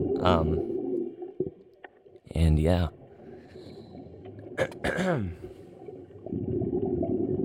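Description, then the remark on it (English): A steady wash of water sounds played by a lightweight computer program fills the background, broken by a few loud, gliding tonal calls. A person speaks briefly over it. “We've got nice, lovely water sounds in the background.”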